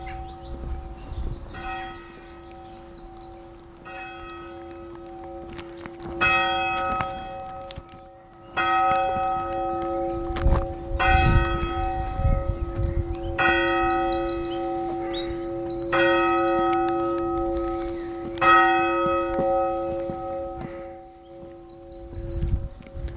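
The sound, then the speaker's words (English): A church bell strikes twelve for midday in slow, evenly spaced strikes, each ringing into a sustained, humming resonance, while birds chirp and tweet throughout. No one speaks. “That's 12 o'clock midday.”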